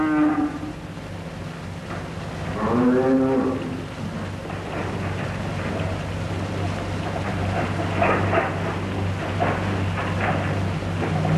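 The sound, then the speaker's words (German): Cattle in South West Africa moo twice, a short low call at the start and a longer, louder bellow a few seconds later, over a steady low rumble and general outdoor background noise. “Die Rinder spielen heute und auch wohl für alle Zukunft eine entscheidende Rolle im ganzen Land.”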